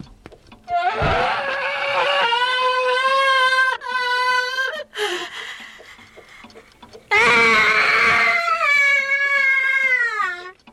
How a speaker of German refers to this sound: Ihr seht, eine schreiende Uhr ist nichts Besonderes für mich.